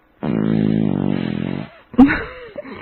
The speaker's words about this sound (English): The Reverend insists that I fart for him. I wanted to hear you make sounds, including all bodily sounds.